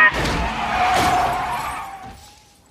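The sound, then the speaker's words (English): A vehicle skids with a sustained, high squeal of tires or brakes, while sharp bursts of crashing and shattering break in. The loud commotion fades out over a couple of seconds. “Oh, my God. He's pushing me in front of the bus.”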